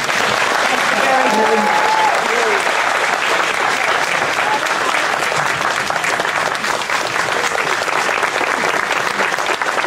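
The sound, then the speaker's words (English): Sustained applause from a large audience at the cinema in Mount Airy, North Carolina, a dense steady patter of many hands clapping at once with faint voices mixed underneath, continuing loudly throughout. “Crowd begins to clap, and Eleanor stood up and was clapping with them.”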